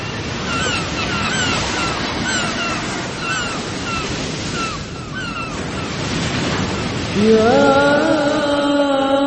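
Ocean waves break and wash steadily onto the shore in a continuous, full roar, with repeated high bird cries overhead and a drawn-out tonal call rising near the end.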